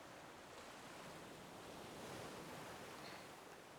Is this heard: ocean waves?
yes